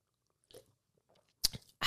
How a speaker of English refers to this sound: So let's take a sip of our energy drink.